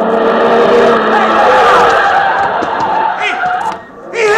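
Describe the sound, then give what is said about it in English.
A loud, sustained screech of car tires skidding on pavement as a car making a right turn from 15th Street into 4th Avenue hits a pedestrian crossing the intersection, wavering in pitch for several seconds amid busy street noise before cutting off abruptly near the end. “Wow, look at those tire marks. Hey, the guy's out cold.”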